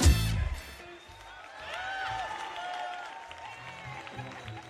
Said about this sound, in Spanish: Si están en victoria, dame un fuerte aplauso al Señor en esta tarde.